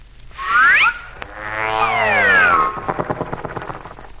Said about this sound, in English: Ah, that's a picture of me and my new skyrocket ship. Now, whenever you hear the sound of the motor, that means you must turn the page.